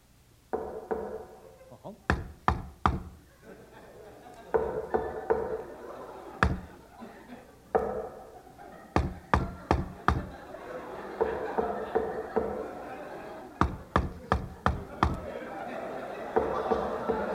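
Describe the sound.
Sharp, loud knocks on a house door, given as a secret knock, come in quick clusters of three to five raps, repeated several times over a steady background of murmuring voices.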